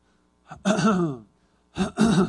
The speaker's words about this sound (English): Goodness, clear my throat here.